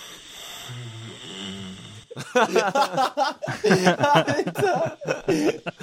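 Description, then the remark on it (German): A low, rumbling snore drones quietly for about two seconds, then loud bursts of laughter and excited voices take over. “Der Mann muss in den Schnarcherbereich.”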